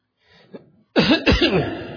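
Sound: coughing and clearing throat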